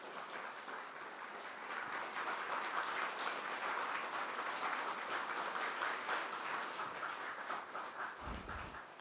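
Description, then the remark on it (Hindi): A crowd applauds steadily for about nine seconds, a dense, even wash of many hands clapping at a constant loud level, with no voices heard. “एक बार जोरदार सभी तालियां बजाएंगे।”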